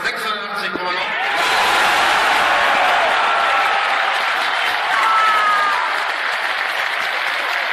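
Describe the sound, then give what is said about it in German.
A crowd of nearly 10,000 HSV club members bursts into sustained applause and cheering on 25 May 2014, dense clapping filling the air with loud whoops and shouts rising over it, steady and energetic throughout after a brief quieter start. “Ich war einer von den knapp 10.000 Mitgliedern, die ihr da im Hintergrund gerade habt jubeln und klatschen gehört, denn ich war natürlich da.”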